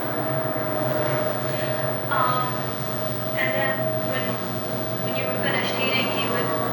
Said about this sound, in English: It's an airplane going up. Not far from Maxwell Field.